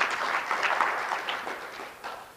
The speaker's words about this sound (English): I think we're among friends today. Let's give each other a round of applause. Come on.